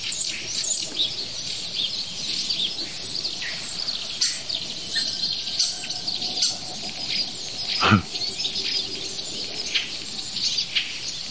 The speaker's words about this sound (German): Ja, was für ein Wasservogel war das eben. Auf jeden Fall bauen sie auch den Sperling mit ein. Finde ich sehr schön, habe ich von drüben schon gehört. eine wilde Mischung aus Sperlingen, diversen Rufen von Wasservögeln, Handyklingeln